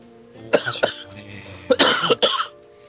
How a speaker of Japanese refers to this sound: した咳き込んでますけども、 うん、咳だけね。 大丈夫です。 うん、はい、全然大丈夫。 大丈夫って言いながら咳き込んでるなんですけど。